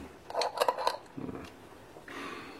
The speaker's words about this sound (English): Open sesame. Damn these little pots of paint. Can you open this?